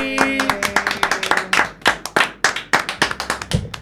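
An audience applauds steadily, a dense patter of many hands clapping at close range that holds at an even loudness throughout, with a brief tonal hum at the start.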